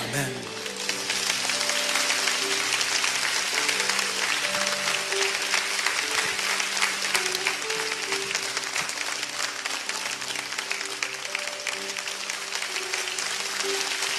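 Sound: audience applauding and cheering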